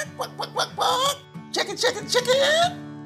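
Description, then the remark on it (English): A chicken clucks close by in quick, nasal bursts, breaking into longer drawn-out squawks, loud and clear with no other sounds around it. “Chicken.”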